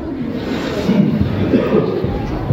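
A crowd of people clapping together, a dense, steady wash of applause that holds at an even loudness throughout, with a faint murmur of voices mixed in.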